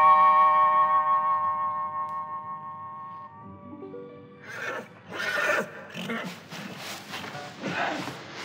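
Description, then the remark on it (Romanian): A horse whinnies loudly with a long, quavering neigh, then falls into a series of snorts, shuffles and clattering movements in the imperial stables. “intră în grajdurile împărătești și îți alege cal pe măsura îndrăznelii tale.”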